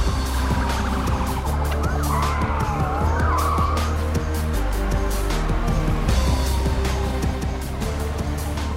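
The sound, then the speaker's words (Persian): Truck tires squeal and skid during a police chase as the truck heads west on Olympic Boulevard, two blocks from the 405 freeway, over a steady, loud engine roar, with a wavering siren-like whine weaving through the middle of a continuous rumble of heavy traffic. “به تمام واحدها، من کامیون آیداهو رو میبینم. تو خیابون المپیک در فاصله دو بلوکی از آزادراه 405 به طرف غرب در حال حرکته.”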